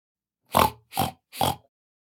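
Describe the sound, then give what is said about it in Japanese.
A person imitates a pig with three quick nasal oinks in a row, evenly spaced and fairly loud and close, with no other sound around them. “ブタです。ブヒ。”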